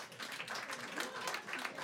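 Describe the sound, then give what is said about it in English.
An audience claps after being asked to clap if they are bad drivers. It is a steady, dense patter of many hands, moderately quiet, continuing evenly for a couple of seconds with no one talking over it. “Okay, clap if you're a bad driver.”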